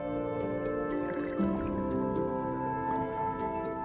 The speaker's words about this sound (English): The turtle splashes into calm water shaded by trees.